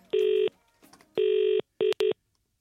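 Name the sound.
telephone call ringing out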